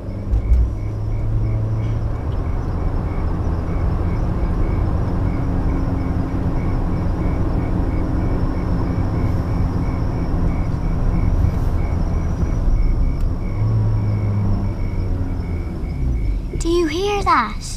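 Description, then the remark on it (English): A motor car engine rumbles steadily and fairly loudly as the car approaches, a low continuous drone with a brief wavering whine near the end. “It's a motor car.”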